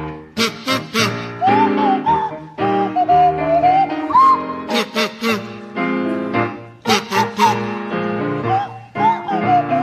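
Sandy Toksvig plays a buzzy kazoo and Tim Brooke-Taylor a sliding Swanee whistle, a jaunty tune together over a rhythmic musical accompaniment, loud, the whistle gliding up and down between phrases.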